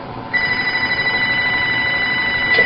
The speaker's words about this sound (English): Just there at the phone ring, I said, I bet that's Marge.